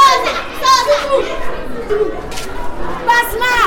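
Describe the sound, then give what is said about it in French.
Children playing, shouting and jostling in the courtyard of the municipal high school in Waïguia, a lively mix of overlapping high-pitched voices, calls and chatter filling the space at a steady, fairly loud level. “Des enfants qui jouent dans la cour, des cris, de la bousculade.”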